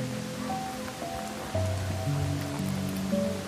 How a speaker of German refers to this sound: Schon von Weitem kannst du hören, wie das Wasser in die Tiefe fällt. Der Anblick ist unsagbar beeindruckend. Die Pferde stören sich gar nicht an dem lauten Rauschen des Wassers.